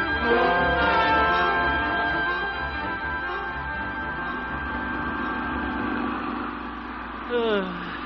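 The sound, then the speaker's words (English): Old man Walker's tractor engine idles while blocking the whole street, with a steady, throbbing low rumble and a constant droning hum, holding an even loudness throughout, with a brief swooping whine near the end. “Old man Walker and his tractor up there, taking up the whole street.”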